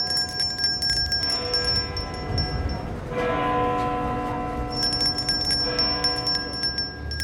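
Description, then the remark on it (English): A large church bell tolls several slow strikes, each one ringing out with rich, shimmering overtones that hang and overlap in a long, resonant decay. No voices are heard. “The bell is tolling for you if you don't fund this research.”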